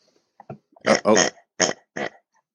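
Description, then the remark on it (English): A person mimics a pig with a series of about four loud, throaty oinking grunts, preceded by a couple of softer snorts, spaced irregularly with short pauses between them. “And I'm waiting for the sound effect. Oink, oink.”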